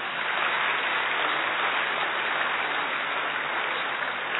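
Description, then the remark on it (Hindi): A large audience of about two thousand applauds to welcome first-time attendees who have stood up, in a dense, steady wash of clapping that holds at an even, fairly loud level for several seconds with no voices over it. “बाकी लोग ताली बजा सकते हैं।”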